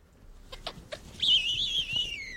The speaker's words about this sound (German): Und so klingt übrigens der Ruf eines Bartgeiers.